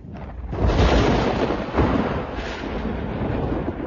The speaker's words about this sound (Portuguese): Os trovões ou trovoadas também provocam a separação entre a luz e o som, tendo a mesma origem. Quando vemos um relâmpago, a gente demora alguns segundos para ouvir o trovão.